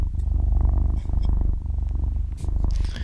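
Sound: cat purring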